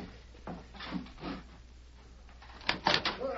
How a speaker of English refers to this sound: They're out here in the street. I'll open the door. You can hear them for yourself.